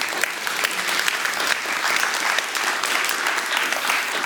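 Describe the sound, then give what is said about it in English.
Sustained applause from an audience, a dense, steady patter of many hands clapping at an even loudness for several seconds, with no talking over it. “I'm going to tell all my pastor friends who looked at me like I was crazy that I was going to do that today, that you clapped for it.”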